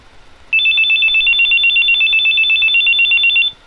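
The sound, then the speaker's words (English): A telephone rings loudly and steadily for about three seconds, a rapid trilling electronic bell with a fast pulsing warble, starting abruptly and then cutting off. No one speaks. “Supermom answering the baby, door, and phone at the same time.”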